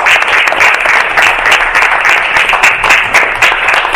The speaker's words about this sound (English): So just wanted to announce a few staffing changes. So if we could give them a round of applause, new changes.